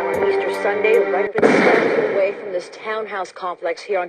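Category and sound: impact, gunshots firing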